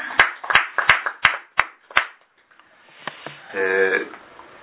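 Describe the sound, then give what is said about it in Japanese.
An audience at a Konkokyo worship service claps together for a worshipper's niece who is getting married that day, in a steady rhythm, about six sharp, loud claps in unison, then a few scattered taps trail off before a brief voice sounds at the end. “姪御さんが今日結婚式を挙げられますので盛大な拍手でお願いします。”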